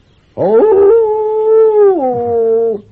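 A wolf lets out one loud howl lasting over two seconds, holding a steady pitch before sliding down to a lower note and fading out. No other sounds accompany it.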